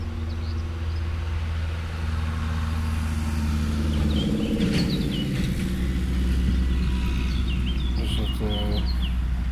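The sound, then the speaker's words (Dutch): A tractor carrying hay bales rumbles with a deep, droning engine as it travels along a road in the late afternoon, with small birds chirping and tweeting faintly over the top. “Trekker met hooibalen over de autoweg hier.”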